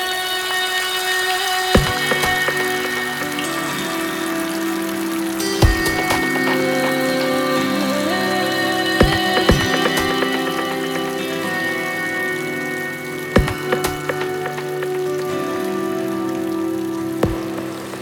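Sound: rain falling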